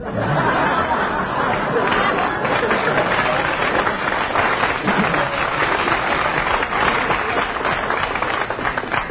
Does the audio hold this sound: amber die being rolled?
no